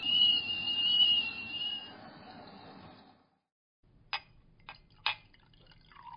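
A kettle whistles shrilly over a rumbling boil for about three seconds, then cuts off abruptly, followed by a brief quiet and a few sharp clinks and soft pouring sounds.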